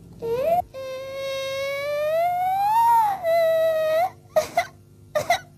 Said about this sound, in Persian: چیه؟ چیه گریه میکنی؟ گرسنه‌ت غذا تو بخور.